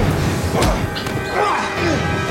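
punches landing

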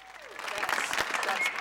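one person clapping hands

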